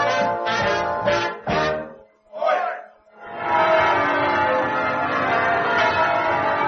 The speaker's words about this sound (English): Oi! Oh, love a duck, I'm getting rid of that alarm clock